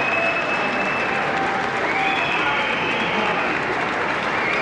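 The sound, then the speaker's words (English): A Wisconsin legislative assembly bursts into loud, sustained applause as Governor Scott Walker is introduced, a dense wash of clapping that holds steady throughout, with a few faint high whistles and crowd murmur woven through it. “as you predicted, the eruption of applause.”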